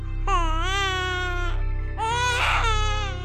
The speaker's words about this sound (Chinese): 夜空极静，星星在天空闪烁着，马棚中传来婴儿诞生的声音。